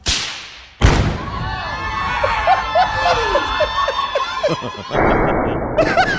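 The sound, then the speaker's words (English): A sudden heavy blast booms in after a brief lead-in as a wedding dress is blown up, then rumbles on for several seconds in slow motion, drawn-out and slowed-down, while warped voices and laughter swirl beneath it. “Here's the blowing up of a wedding dress following a divorce.”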